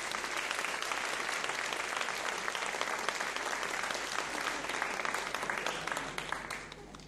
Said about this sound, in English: Round of applause to our actors.